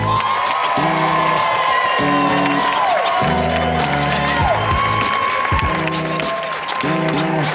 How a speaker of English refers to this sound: Give a big, big round of applause for Mr. A.J. Jamal.